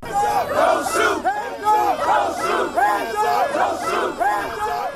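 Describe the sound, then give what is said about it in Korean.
A crowd of several hundred protesters marches in Charlotte, North Carolina, chanting a 'don't shoot' slogan in unison, the loud voiced phrases repeating in a steady rhythm about once a second, with no single voice standing out. “네, 수백 명의 시위대가 총을 쏘지 말라는 구호를 외치며 행진을 했는데요.”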